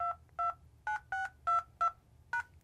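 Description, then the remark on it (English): Seven quick phone keypad beeps, the dual-tone presses coming at a steady, slightly uneven pace as a PIN is punched into a cell phone during a Microsoft sign-in verification call, clear over a faint low hum, with no talking. “And I can go ahead, I can put in my PIN here.”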